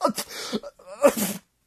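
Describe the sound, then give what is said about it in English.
A person sneezes twice in quick succession, fairly loud, each a breathy burst with a short gasp between, then silence; the sneezing comes from an allergy to flower pollen. “I can't stop sneezing.”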